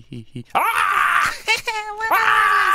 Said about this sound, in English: Sound effects off screen. We hear some of the children playing with … loudly shrieking.